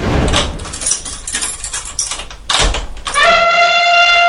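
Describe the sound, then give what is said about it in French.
A noisy, clattering rumble with a couple of sharp bursts gives way to a loud, sustained elephant trumpet, a brassy high blare holding steady for about a second until the end. “Allez, j'allais dans l'éléphant. Éléphant, c'est parti.”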